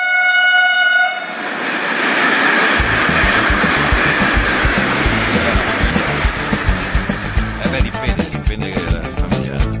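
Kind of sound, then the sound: vehicle, train passing with horn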